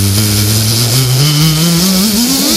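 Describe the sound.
A voice imitates a stressed, frantic bee with a loud, unbroken buzzing hum that climbs steadily in pitch over a couple of seconds, with no words spoken.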